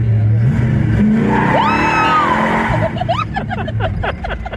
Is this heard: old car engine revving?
yes